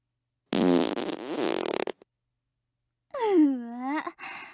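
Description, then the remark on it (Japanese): A single drawn-out, sputtering fart lasts about a second and a half, fairly loud. After a brief silence comes a long breathy vocal sigh or moan. “おなら嗅いだら、ますますおちんちん硬くなった。”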